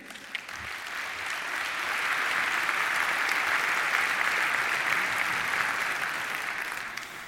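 Sustained audience applause welcoming a speaker before a talk, a dense wash of many hands clapping that swells in the first second and holds steady at a fairly loud level for several seconds before easing slightly, with no talking.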